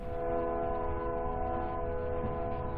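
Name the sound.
train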